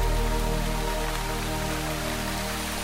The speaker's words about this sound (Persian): داره بارون میاد، آسمون بخیل داره میباره بر ما.